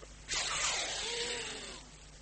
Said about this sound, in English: The sheriff and the officers threw water on the brazier to put it out.